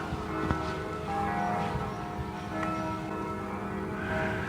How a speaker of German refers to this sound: Die Glocken, hört ihr sie? Die Glocken von Mülheim. Jawohl.